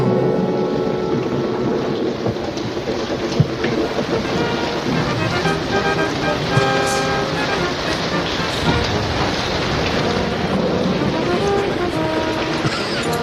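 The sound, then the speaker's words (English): A steady, loud wash of rain and gusting wind fills the whole stretch, with a low rumbling undertone and a couple of brief sharper cracks; no one speaks. “It was a big storm.”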